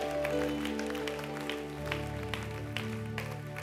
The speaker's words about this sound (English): Raise your hand. Thank you, Lord. Give him a big clap. Thank you, Father.